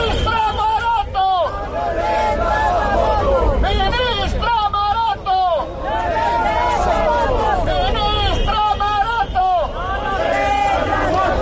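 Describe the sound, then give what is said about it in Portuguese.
A large crowd of protesters in A Coruña shouts slogans together against the Industry minister and about energy prices, loud, their overlapping voices forming a continuous rhythmic roar that rises and falls in chanted bursts. “Y otros gritos iban contra la ministra de Industria.”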